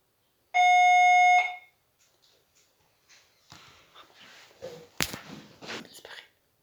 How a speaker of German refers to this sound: Hat uns die Türklingel aufgeweckt. Wir nehmen das jetzt einfach als Teil der Praxis. Die Postlerin hat einfach Pakete für jemand gebracht und die Person freut sich darüber, also kann ich mich auch darüber freuen.